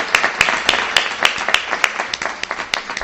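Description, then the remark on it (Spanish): A small audience at the radio programme El Embobadero at the Lienzo Norte applauds itself for a few seconds, a dense patter of hands with some sharp, louder claps landing in a steady, quick rhythm over the top. “Un aplausito del público al público.”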